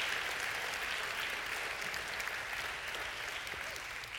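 Sustained applause from an audience for guests as they are seated, a dense, steady wash of many hands clapping at an even loudness throughout, with no voices standing out.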